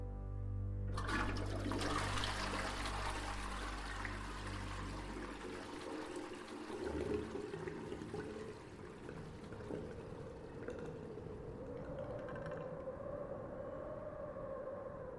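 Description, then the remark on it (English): A toilet flushes with a sudden loud rushing gurgle, then settles into a steady hiss of refilling water whose pitch slowly rises, with no voices. “I threw the miscarriage down the lavatory. As this half-pound lump of life was flushed away like human waste.”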